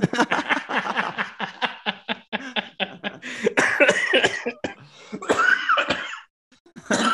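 A long fit of harsh, repeated coughing, loud, with rapid bursts tumbling one after another, some rough and throaty, then a brief pause before a final cough.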